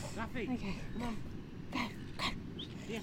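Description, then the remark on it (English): A dog that has come to visit the speaker whimpers and yips, a run of short, high, wavering whines broken by a few sharp yelps, fairly loud against a steady low rumble. “One of the key things that he suggests is, sorry, I just had a dog visit me.”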